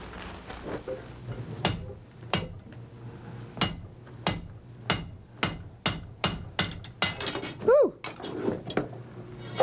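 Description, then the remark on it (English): A blacksmith hammers hot iron, forging door handles by hand, with sharp, ringing metallic strikes in a steady, slightly uneven rhythm, about a dozen blows, over a low rumbling hiss; one brief tonal squeal near the end. “Even that toe toaster was made by hand, by a blacksmith who forged it out of fire and iron. Let's watch him work.”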